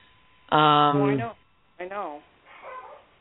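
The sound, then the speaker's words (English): A small female dog named Cindy Lou lets out a long, loud, high whining yelp, then a shorter bark-like whine, trailing off into a faint whimper. “Oh, you can hear my dog.”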